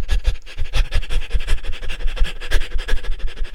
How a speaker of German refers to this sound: Macht das ruhig noch 3-4 Mal, dass ihr ein paar Sekunden hechelt, dann zur Ruhe kommt und dann nochmal für ein paar Sekunden ins Hecheln geht.